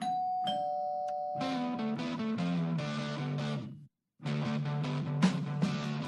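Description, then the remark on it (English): A Ring Video Doorbell's electronic chime: a steady held tone gives way to a bright, loud multi-note melody that stops briefly, then plays again. No voices accompany it. “this weekend's new Tulu 2 is the Ring Video Doorbell”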